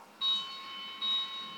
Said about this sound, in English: I have a bell.